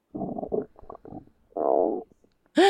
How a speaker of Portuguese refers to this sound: Era sua barriga roncando de tanta fome.